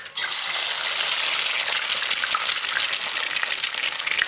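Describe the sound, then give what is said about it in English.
An egg sizzles and spits in a hot pan, a steady dense crackle of bright popping and hissing that runs unbroken for several seconds with no voices. “The delightful sound of an egg frying in a hot pan.”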